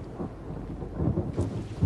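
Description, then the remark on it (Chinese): Low, dull thunder rumbles steadily with a constant hiss of falling rain in drops as big as soybeans, the rumble swelling slightly toward the end; no voices. “随着一阵沉闷的雷声，千万颗黄豆般大的雨点儿跳跃着，旋转着，从云端里落了下来。”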